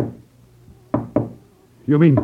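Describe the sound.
Two sharp wooden knocks from a spirit-rapping device, a little wooden box with a hammer inside worn around the waist and worked by flexing the body muscles, land in quick succession, hollow and fairly loud, before a voice starts speaking at the very end.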